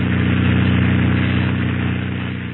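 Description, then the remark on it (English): A small propeller plane's engine drones steadily while taxiing over to a shack, a loud, continuous buzzing hum with no voices over it. “Now we'll taxi over to that shack and give it a look-see.”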